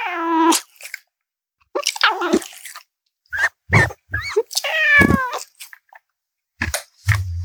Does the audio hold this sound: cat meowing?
yes